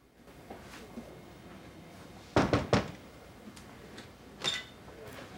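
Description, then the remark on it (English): A desk drawer is pulled open with a quick run of three wooden clunks and rattles, then one more softer knock a couple of seconds later, over a quiet, hushed background, as a woman at her desk reaches in to look at a pregnancy test. “With a sigh, she reaches into her desk drawer to look at a pregnancy test.”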